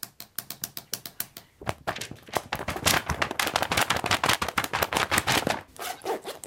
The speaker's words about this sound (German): Nee, es waren Feinliner, die auf den Boden getrommelt haben.